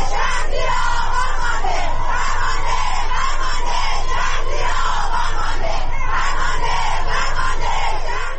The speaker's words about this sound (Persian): کاربران شبکه اجتماعی در ایران در ساعات اخیر به رغم دشواری‌های فراوان در اینترنت ویدیوهایی را از اعتراض‌ها و شعارهای سر داده شده از سوی مردم انتشار دادند.